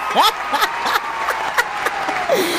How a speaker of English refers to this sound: They gave me some applause and I was so excited. I'm like, oh, they really liked the interview.